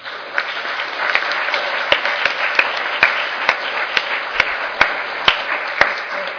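A crowd applauds steadily for several seconds, a dense wash of clapping with sharper individual claps popping out at irregular intervals, fairly loud and with no voices over it.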